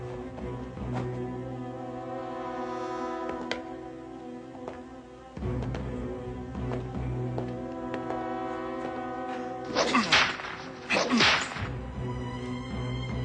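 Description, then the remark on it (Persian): Two loud whip lashes crack and swish in quick succession near the end as a person is flogged, heard over a sustained, droning musical background with no talking. “آنقدر بزن تا به خاک بیفتد. بزن.”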